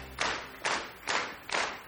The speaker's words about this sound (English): Okay, cut the music, keep clapping.